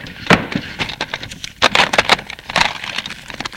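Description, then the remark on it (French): A woman pulls open a wooden drawer of a desk in a shop's office, with a series of scraping slides, knocks and rattles of its contents over a few seconds. No one speaks. “Elle ouvre le tiroir.”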